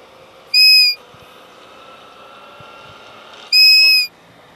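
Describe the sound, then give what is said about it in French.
Two short, shrill grass-blade whistle calls, each about half a second long and spaced a few seconds apart, loud over a quiet outdoor background with no talking, made by whistling on a blade of grass at the edge of a field to call a roe doe. “Puis on va siffler, on veut prendre une herbe, et puis j'ai un pot aussi.”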